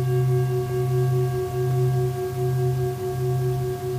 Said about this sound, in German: Die Universalschale heißt deshalb so, weil sie ein sehr breites Klangspektrum hat. Es hat sowohl hohe als auch tiefe Töne.